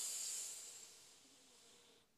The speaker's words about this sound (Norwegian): Da begynner vi med å puste godt inn med nesa.